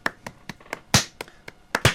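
A brief, small round of applause for the new head of the culture department that the campus radio belongs to: sharp, crisp hand claps at a steady pace of about four per second, with a few louder ones standing out and no talking over them.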